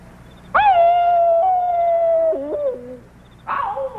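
wolves howling

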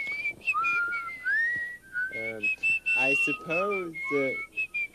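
person whistling a tune

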